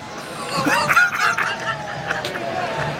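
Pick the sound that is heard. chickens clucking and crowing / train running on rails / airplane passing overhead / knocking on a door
chickens clucking and crowing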